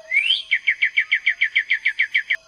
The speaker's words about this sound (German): Wir hören die Tiere zunächst einzeln. So klingt ein Vogel mit Eddies Mikrofonen.